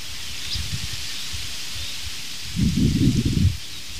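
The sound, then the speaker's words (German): Aspen leaves rustle steadily in the wind with a soft, waterfall-like hiss, swelling into a louder gust near the end before settling back. “Beenden wir doch diesen kurzen zweiten Teil dieses morgendlichen Podcastes mit dem schönen, nach Wasserfall klingenden Blätterrauschen der Espen.”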